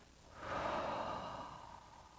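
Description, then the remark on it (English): A slow, deep breath in and out, taken to finish a meditation, a soft airy rush that swells and gradually fades over about two seconds, with no talking. “If you like, you can join me in breathing in and out.”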